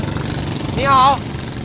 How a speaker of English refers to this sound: The poachers anchor their boats to the reef and then rev their engines.